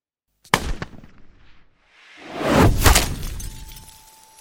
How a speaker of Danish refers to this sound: Der lyder et smæld og et klir, da et projektil smadrer en af bilruderne og rammer en gisseltager i hovedet. Projektilet er blevet skudt ind lige der, hvor en af de skudsikre veste i vinduet hænger en lille smule.